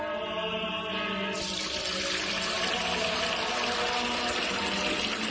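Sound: water pouring or running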